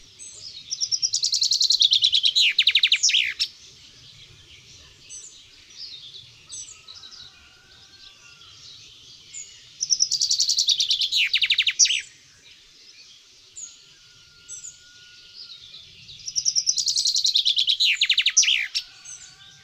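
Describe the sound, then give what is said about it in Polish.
A common chaffinch sings three bright, loud song phrases several seconds apart, each a rapid trill ending in an accented flourish, with quieter bird calls and faint low background noise between. “W tej dźwięcznej zwrotce można wyróżnić dynamicznie skandowany początek, trel i zakończenie z akcentem.”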